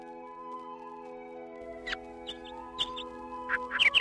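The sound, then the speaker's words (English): Several short, high chirps from birds in the hazy early morning by a shore scatter across a steady low hum, coming faster and closer together toward the end. No one speaks. “In the hazy early hours, as the birds chirp their morning songs, anglers approach the shore.”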